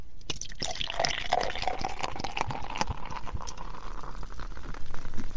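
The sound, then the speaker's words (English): Beer pours steadily into a glass, a continuous gurgling splash with irregular glugs and a pitch that rises faintly as the glass fills, no voices present. “And pouring the beer.”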